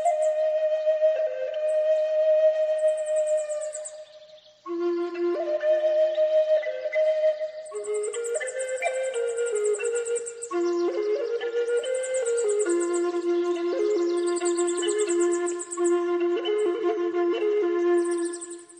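A handmade wooden flute plays a slow, wandering melody of long sustained notes with an airy, breathy edge, heard alone without any talking.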